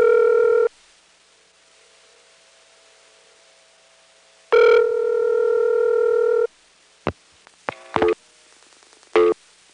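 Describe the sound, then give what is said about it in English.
A steady dial tone on a University Centrex trunk that has been flashed off sounds briefly, cuts off, then returns for about two seconds before a series of short clicks and tone bursts as the line times out. No one speaks. “And second, flashing off the University Centrex trunk and letting it time out.”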